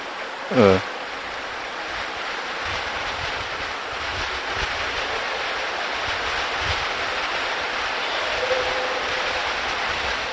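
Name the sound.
heavy rain falling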